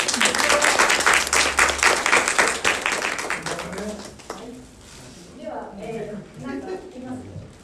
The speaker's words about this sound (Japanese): で、まあちょっと前まで言いますので、もしよかったら拍手を送ってあげていただけませんか。